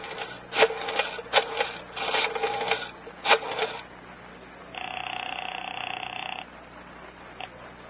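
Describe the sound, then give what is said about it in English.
A telephone being dialed as Special Agent Jim Taylor makes a phone call at FBI field headquarters: several bursts of rapid mechanical clicking, then a steady buzzing ring tone for over a second, ending with a single click. No one speaks. “Special Agent Jim Taylor is making a phone call.”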